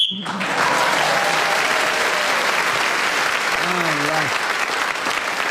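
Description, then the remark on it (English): A brief, shrill whistle blast marking the end of a contestant's turn in a panel game opens, then loud, steady applause takes over and carries on unbroken to the end, with a few faint voices rising through the clapping. “So Sue was then speaking as the whistle went, gained that extra point.”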